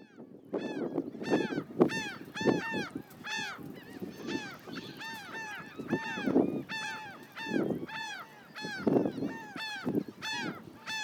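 A noisy flock of seabirds calls constantly, overlapping harsh honking and squawking cries, with a low rumble of wind buffeting underneath throughout, recorded on an iPhone 16.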